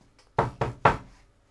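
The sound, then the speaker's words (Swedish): Three firm knocks on the door of a friend's home in quick succession, clear, each a sharp thud with a short decay, followed by quiet. “Jag går och knackar på.”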